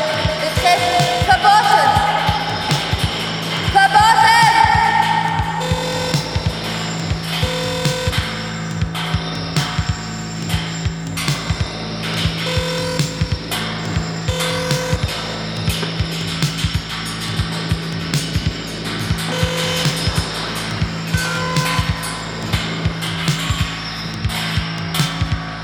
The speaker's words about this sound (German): Berlin, Kreuzberg. Ehemalige Fabrik. Selbstorganisation. Selbstorganisation. Baustelle.